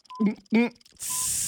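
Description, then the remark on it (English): A voice imitates a coffee maker as others guess the sound: two short, throaty gurgling bursts, then a steady, sustained hiss like steam sputtering through the machine. “Coffee maker. Coffee maker. Yes.”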